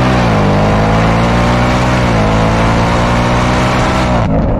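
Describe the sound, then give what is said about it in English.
A loud engine drones steadily at high revs, then near the end the tone breaks abruptly with a rough puff from a bad combustion event as it shifts gear. No voices are heard. “Now, for those of us that understand how internal combustion engines work, this is a bad combustion event.”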